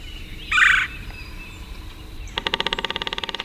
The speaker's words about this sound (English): It's morning on the bayou. Cypress trees draped with Spanish moss rise from still, dark water. A red-bellied woodpecker calls and then drums on an ancient snag.